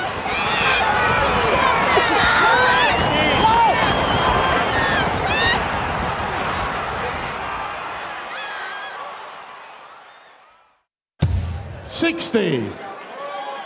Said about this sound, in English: Horse racing fans, they get really crazy when they're cheering. Those people that are yelling, come on, come on! They're like screaming at the top of their lungs and yelling.